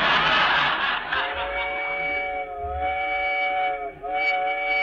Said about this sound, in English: Shucks, this is the slowest train I ever rode on. Wow. So it's rough, ain't it, too, sir? Real bumpity.